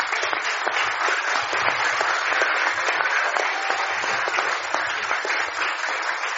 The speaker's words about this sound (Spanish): Y un aplauso a todos los hermanos que nos sirvieron, hermanos.